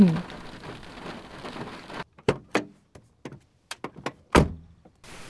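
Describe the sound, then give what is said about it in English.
Steady hiss of rain falls on an isolated field for a couple of seconds, then cuts to a quieter stretch broken by several sharp, uneven knocks and thumps. “Oh, especially in the rain.”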